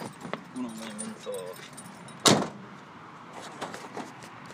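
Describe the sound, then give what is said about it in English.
Keys jingle, with a single sharp clunk midway as the car is locked. Faint voices and outdoor background noise sit underneath. “He's locking up the car now.”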